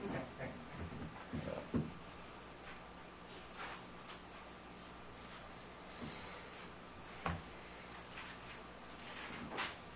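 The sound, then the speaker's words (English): A faint, steady electronic alarm tone drones continuously, an emergency exit door alarm going off, with occasional soft knocks and clatter. “Some kind of emergency door alarm's going off, probably malfunction.”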